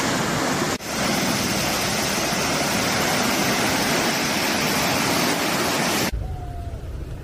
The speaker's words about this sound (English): Mira la que nos hemos librado. Mamma mía, la crecía como viene.